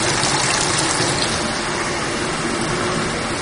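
Steady bubbling and rushing of water well over 30 degrees in a spa pool, a dense continuous churning that stays fairly loud and even throughout, with no voices.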